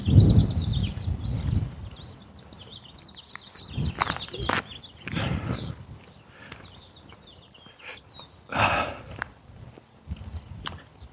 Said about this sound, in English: birds chirping.